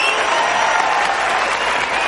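At a university event, an audience applauds steadily for a student who will represent the university in a final, a dense, even wash of many hands clapping at once, fairly loud and sustained from start to finish with no talking.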